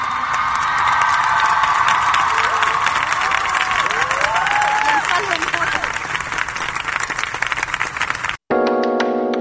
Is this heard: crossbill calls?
no